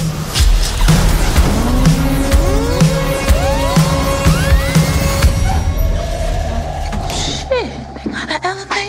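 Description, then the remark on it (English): A car roars past at speed, its engine climbing in pitch through several quick gear changes, then tires squeal sharply toward the end. Loud, with a dense rumble throughout. “That's the car right there.”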